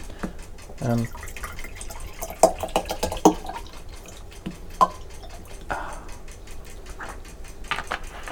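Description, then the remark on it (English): Water pours into a tall glass, with uneven splashes, gurgles and a few sharp drips scattered over several seconds at a moderate level. “Nice tall glass of scotch. Oh, I mean water.”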